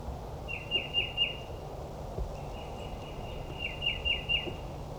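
wild birds chirping

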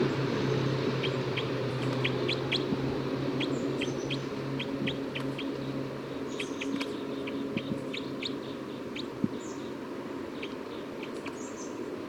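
bird call

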